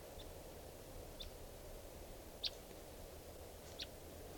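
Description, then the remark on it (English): A wild bird, recorded at 3:10 p.m., gives four short, high-pitched calls spaced roughly a second apart, fairly faint, over a steady low background rumble with no talking. “We're recording at 3:10 p.m. and there's a wild bird here.”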